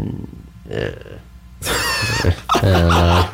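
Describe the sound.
A person lets out a rough, throaty growl in a couple of loud bursts, ending in a sustained low, gravelly rumble, after some quieter breathy vocal noises.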